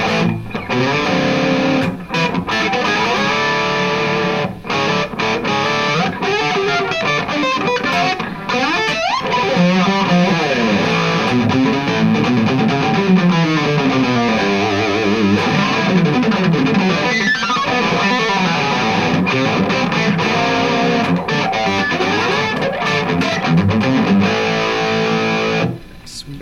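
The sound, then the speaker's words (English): Heavily distorted electric guitar plays a run of loud, sustained four-note chords through an effects pedal, with gliding bends and a dense, saturated buzz that stays thick and constant throughout. “Is, so if we can see how it does four note chords, right?”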